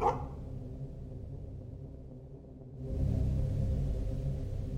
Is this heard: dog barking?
yes